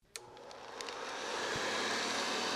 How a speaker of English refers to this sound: That sound may make you think of housework. After all, a vacuum cleaner's job is to clean.